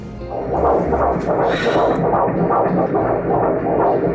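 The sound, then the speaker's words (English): A baby boy's fetal heartbeat on an ultrasound monitor, a fast, steady run of whooshing pulses over a muffled, rumbling background, loud, with no one speaking. “Let's hear his heartbeat.”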